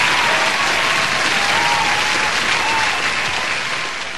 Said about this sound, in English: For that, we should be applauding you. Thank you.